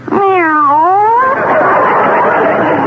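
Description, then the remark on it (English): A single loud cat meow, drawn out with a pitch that dips and rises again, then trails off into a harsh, raspy yowl for the rest of the moment. “I'm crazy about cats, Miss Brooks.”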